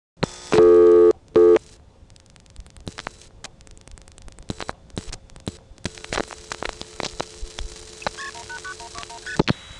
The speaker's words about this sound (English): I'm going to try dialing 189-121.